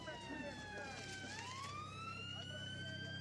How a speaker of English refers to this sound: And then sometimes when you're in London and you get that heavy screeching of a siren, we're all jumping on the pavement, jumping out the way because here they come. Almost breaks your eardrums sometimes.